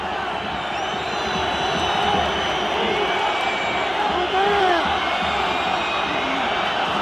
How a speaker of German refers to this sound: Es ist so laut, ich höre mein eigenes Wort nicht. Der Grund fürs Pfeifkonzert ist aber natürlich, dass ein Barca-Spieler in Nähe der Espanyol-Eckfahne auf dem Boden liegt.